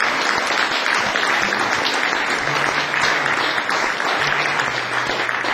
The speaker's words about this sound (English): please give them all a big warm round of applause, and thank you very, very much for having me.